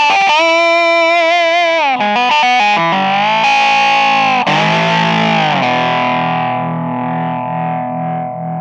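A lap steel guitar with a resonator box, played in front of a high-gain distortion, plays alone and loud, with sliding notes that bend between pitches, then settles into a long sustained chord that slowly fades.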